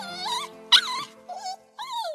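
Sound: puppy whimpering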